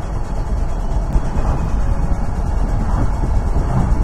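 Steady engine and road rumble from a moving car shifting through fourth, third and second gears while slowing for a stop, a dense low drone that holds at an even level throughout, with no voices.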